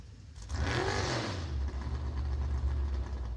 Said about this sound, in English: So we're now virtually on the finish line on the banking. So we've just had a car come through that did an aborted run. I'm struggling with the audio because it's so loud, it just blows any kind of sound levels just get blown away. It's really noisy.